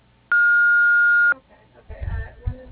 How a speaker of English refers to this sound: Hello, we are unable to answer right now. To send a fax, please start transmission. To leave a voice message, please speak after the beep. Thank you.